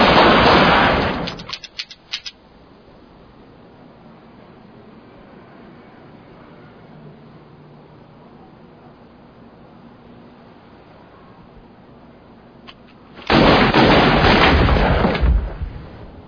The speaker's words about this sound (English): Did you forget that someone was in there with a goddamn hand cannon? You see the size of that gun he fired at us? It was bigger than him. We should be fucking dead, man.